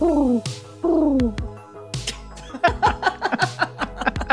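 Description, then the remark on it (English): A person imitates pigeon cooing with two low, descending warbling coos, followed by a quick run of chuckling laughter. The voice is fairly loud. “Is that your pigeon?”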